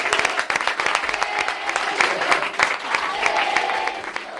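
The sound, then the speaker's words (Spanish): A crowd applauds steadily in an ovation for footballer Marco Asensio, dense overlapping claps forming a continuous loud wash of clapping that holds for several seconds with slight swells, some cheering mixed in. “Chicos, terminamos como lo hemos recibido, con un aplauso y con una ovación para Marco Asensio.”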